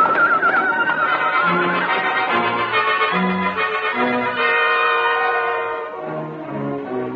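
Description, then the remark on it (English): Several horses neigh and whinny in frantic, overlapping cries, loud, with shrill rising calls and snorts running continuously with no pause, sounding agitated and panicked, in a canyon with a fire. “We got a chance of making it by staying right here. If the horses don't bolt.”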